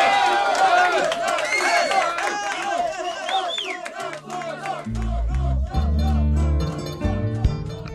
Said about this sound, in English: And with wild cheers and applause in the detention center canteen